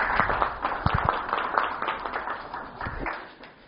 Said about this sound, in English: And most of all, the most incredible sponsors of all of you. Give yourself a round of applause.